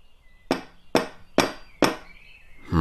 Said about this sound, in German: Wo ist die Klingel? Es gibt keine. Dann werden wir mal den Türklopfer testen. Was für ein riesen Eisenring.